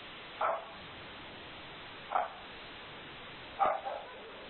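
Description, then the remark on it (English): A dog barks three times at irregular intervals during a group call, each bark short and moderately loud over a steady background hiss, with the last bark followed by a softer trailing yelp. “We've got a dog who's sharing.”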